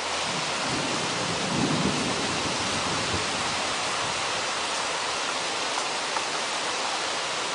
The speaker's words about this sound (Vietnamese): Chúng tôi dựng lều trong một lùm cây nhỏ. Mưa đổ xuống ào ạt.